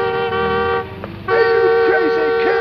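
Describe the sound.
Loud car horns blare in road traffic as someone runs across the road dodging cars: one long sustained honk, a brief drop, then several horns blasting together again, with faint voices mixed underneath.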